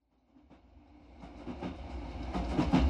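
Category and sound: vehicle, train running on rails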